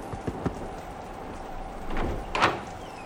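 Three quick raps on the wooden door of a shack in the middle of nowhere, followed after a pause by a couple more, all heard against a steady hiss of falling rain.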